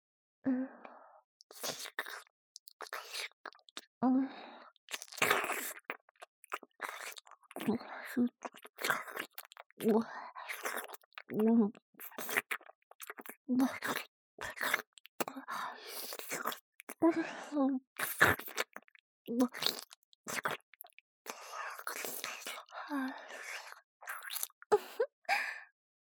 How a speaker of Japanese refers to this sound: 舌ですするたびにどんどんお汁が出てきてしまいました。おお、これではキリがありませんわ。